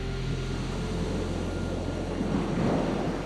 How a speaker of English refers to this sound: For a moment, there was only the sound of the sea.